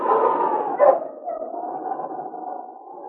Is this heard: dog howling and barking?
yes